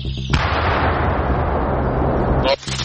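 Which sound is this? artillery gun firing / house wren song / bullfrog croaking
artillery gun firing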